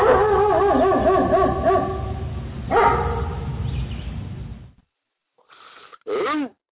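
A dog barks and yips repeatedly, loud and excited, then falls quiet briefly before letting out a couple of final short barks.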